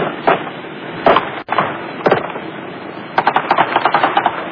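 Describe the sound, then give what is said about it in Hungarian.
Gunshots crackle in an old recording of the shootout between police and hostage-takers at Fürstenfeldbruck military airfield: a few single sharp reports about a second apart, then a rapid burst of roughly ten shots in quick succession, all over a constant hiss. “Ezek már a reptéri lövöldözés hangjai.”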